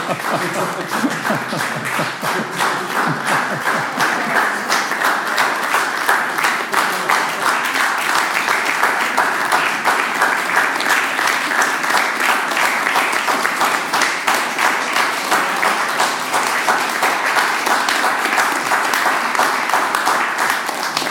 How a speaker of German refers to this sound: Ich gedacht, Sie klatschen noch ein bisschen.